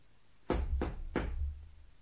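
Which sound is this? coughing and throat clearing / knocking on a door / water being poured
knocking on a door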